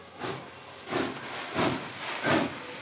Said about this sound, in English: Finally, the train arrives. 16 feet tall, puffing huge blasts of steam. The smell of burning coal fills the air, and the ground literally shakes.